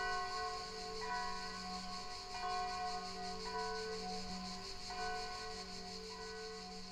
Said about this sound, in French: à chaque fois que je te pose cette question, il y a des cloches qui se mettent à sonner